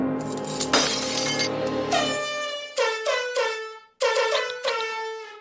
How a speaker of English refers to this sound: Emergency baptism air horn. Important. Every household needs one of those.